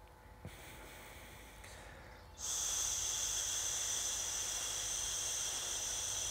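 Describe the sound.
A long, steady hissing exhale pushed through the teeth during a breathing exercise begins after a quiet breath and holds at a bright, high pitch for about four seconds, fairly loud and alone, with no talking.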